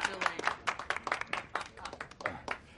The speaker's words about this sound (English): Thank you, one and all, for your kind applause and your generous support.